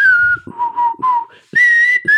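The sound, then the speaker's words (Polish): A person whistles a short melody, clear pure notes shifting between a higher held tone and lower phrases, with faint breathy puffs between the notes and no talking. “Nie znam, ty ładnie gwizdzisz, ja nie umiem.”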